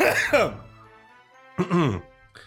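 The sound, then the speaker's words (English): Two harsh coughing bursts with throaty clearing, separated by a brief quiet pause, followed by a short faint rasp at the end. No words are spoken. “Oh, I got a real cough. Hang on.”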